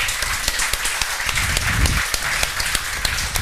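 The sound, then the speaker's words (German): A live audience applauds steadily for a latecomer, with dense overlapping claps filling the whole stretch at a fairly loud, even level and no voices on top. “Applaus für den zu spät Kommer.”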